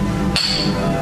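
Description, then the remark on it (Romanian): Wine glasses clink once in a toast, a bright ring that lingers and fades slowly over a low, steady background hum. “Un strop, doar. Noroc.”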